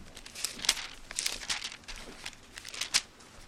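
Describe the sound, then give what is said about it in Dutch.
Thin Bible pages rustle and flip in a quick series of crisp, crinkling swishes, with several sharper flicks standing out, as the Bible is leafed through to Psalm 2. No one speaks. “Als u die met mij op wil slaan, dat zou mooi zijn, in psalm 2.”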